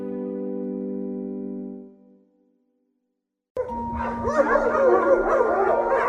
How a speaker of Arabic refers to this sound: بقول لك ايه، ما بلاش نمشي من الشارع ده. ليه يعني؟ عشان الشارع ده مليان كلاب وانا بخاف منهم قوي.